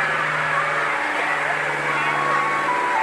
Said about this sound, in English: Hello, plane.